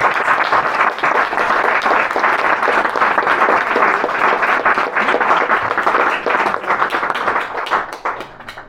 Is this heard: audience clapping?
yes